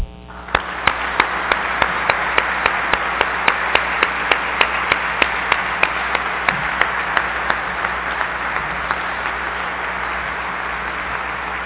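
An audience applauds steadily and warmly for several seconds at an award presentation honoring the memory of Dave Ewald, a dense wash of clapping with a few sharper, rhythmic claps standing out, fading only slightly toward the end.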